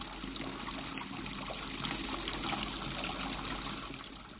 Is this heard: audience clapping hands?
no